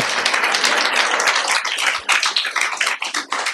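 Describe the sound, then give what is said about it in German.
A crowd applauds the technical crew steadily, many hands clapping in a dense, continuous patter that thins into more distinct individual claps toward the end. No one speaks. “Die Technik hier kriegt mal einen Applaus, ne? Machen wir das mal.”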